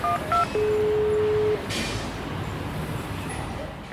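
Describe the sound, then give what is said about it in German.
An intercom doorbell panel, rung by someone trying to get in through a gate, sounds two quick electronic keypad beeps, then a steady, mid-pitched ringing tone lasting about a second, over a low rumble of traffic. “Klingeln wir mal.”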